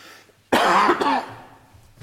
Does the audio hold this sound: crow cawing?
no